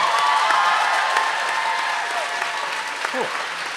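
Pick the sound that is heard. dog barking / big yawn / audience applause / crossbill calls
audience applause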